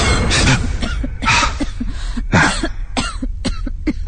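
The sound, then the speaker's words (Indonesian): Several harsh coughs in a row, loud, with a rough, raspy burst at the start and another fit a couple seconds later, followed by short throaty hacks. “terdengar lagi suara batuk itu.”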